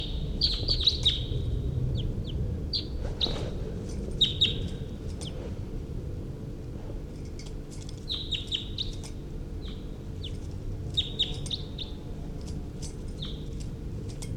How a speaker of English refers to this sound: Wild birds are coming in.